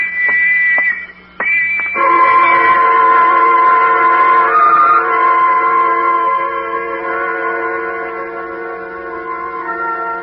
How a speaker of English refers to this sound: And the whistles and the bells all around.